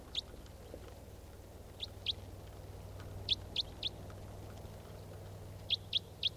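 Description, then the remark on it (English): A wild bird, which looks like a wild type 4 female, gives short, high-pitched chirps in small bunches of two or three. The chirps are spaced out over a low, steady background hum, with no talking. “There's a wild bird.”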